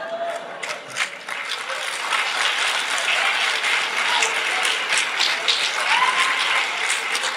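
Steady, dense clapping from many hands fills the whole stretch, a continuous crackling roar of applause at an even, fairly loud level with no voices on top.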